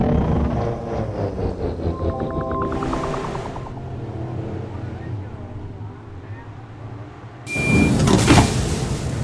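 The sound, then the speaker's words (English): A stolen train capsule landing with another craft grappled onto it: a low mechanical rumble with a rising electric whine, a hiss of released air, then a loud rushing blast and clatter at the end. “Not easy landing a stolen train capsule with the Cloud Racer grappled onto it.”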